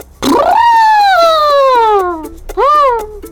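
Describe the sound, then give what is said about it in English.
A person imitates an elephant trumpeting in an animal-imitation game, with a loud, brassy call that swoops up then slowly glides down in pitch, followed by a shorter rising-and-falling blast. “Elephant.”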